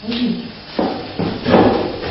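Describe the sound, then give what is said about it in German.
A chair knocks and thumps, three or four dull, irregular bumps over a couple of seconds, with a faint murmur of voice early on. “Ich glaube, dein Stuhl.”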